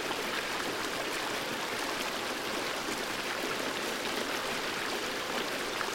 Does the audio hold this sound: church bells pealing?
no